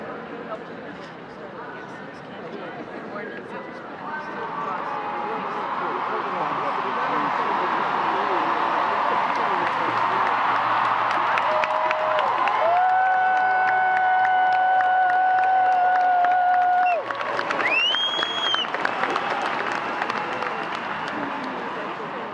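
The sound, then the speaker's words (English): A large outdoor crowd on the Common roars and cheers from a distance in reaction to speakers, deep-throated roars forming a broad, sustained wash of noise that swells and holds for the full stretch, with a few faint whistle-like tones rising above it. “Pretty cool to hear these deep-throated roars come up out of the Common from way down where we couldn't quite see or hear very well.”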